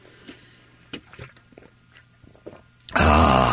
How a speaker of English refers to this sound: Yeah, and one comment was, I haven't heard you sip your coffee in a while. Oh, well, hang on a minute. Here you go.